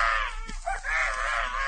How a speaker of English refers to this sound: Hey, wait a minute. Say, did I just hear a baby cry then?